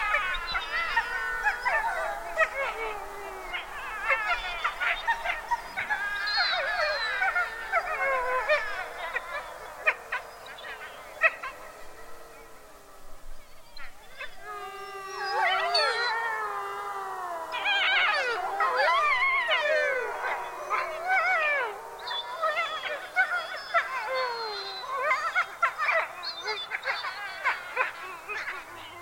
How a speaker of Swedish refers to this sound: Vargar. Sammanlagt ett 10-tal individer ungefär i någon sorts samspråk.